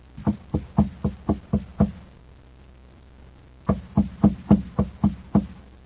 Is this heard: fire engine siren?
no